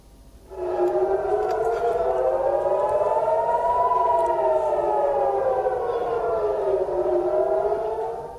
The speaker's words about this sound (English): Air raid sirens have sounded in the northern occupied Palestinian city of Haifa as Hezbollah resistance movement carries out fresh retaliatory strikes on Israeli targets.